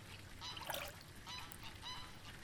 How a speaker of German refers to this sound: Da schnatterte es unter der Brücke.